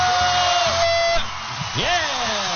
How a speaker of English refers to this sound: Yeah! My goodness. A rainy crowd. Yeah, we brought ourselves. Yeah. We're randomly screaming.